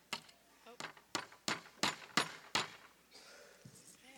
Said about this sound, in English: How come your hands are shaking when I'm hammering?